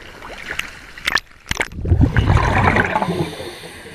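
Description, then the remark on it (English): Splashing and sloshing sea water as a diver wearing gear and weights swims out from shore and dives down: a couple of sharp splashes followed by a broad churning rush as the diver plunges under, then a muffled, bubbling wash with no voices. “I swim out a little and dive down.”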